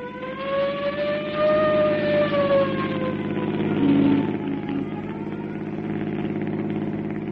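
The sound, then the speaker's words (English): A police squad car siren wails and slowly winds down in pitch over the steady rumble of an approaching engine as the car arrives at Anderson's apartment, with no voices. “Send a squad car to pick me up at Anderson's apartment and hold everybody off that Davis case till I get there.”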